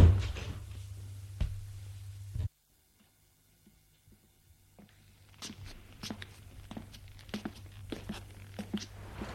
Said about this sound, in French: La porte se referme.